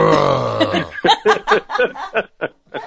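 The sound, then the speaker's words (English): A low, gravelly throat clearing rumbles for about a second, followed by a quick series of short, rhythmic bursts like snickering laughter or small coughs. “Yeah, your cue to just cough.”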